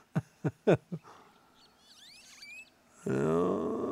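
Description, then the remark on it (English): A wild turkey gobbler gobbles in the woods in spring, in a short burst of four loud, throaty pulses, followed by faint, high songbird chirps and then a louder, dense harmonic sound that runs to the end. “You'll hear other bird songs, but then that gobble comes up.”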